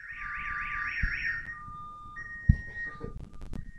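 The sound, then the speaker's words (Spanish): An electronic siren warbles up and down in pitch several times, then shifts to a steady high tone and ends in rapid pulsing bursts, loud over a low background rumble with occasional thumps. “Pero un poco, vamos a escuchar la sirena.”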